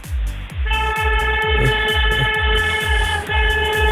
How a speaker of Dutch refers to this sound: Nou ja, ik zal mijn toeter even laten horen.